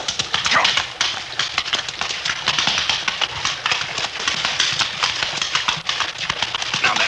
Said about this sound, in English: I hear the running water up ahead. Yeah, here's where we cross. I keep a tight rein. The creek bed has a rocky bottom, and your horse is liable to stumble unless you keep his head up. Here we go now. Come on, boy.